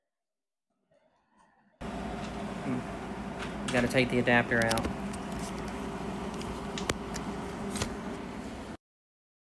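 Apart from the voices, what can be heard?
air conditioner running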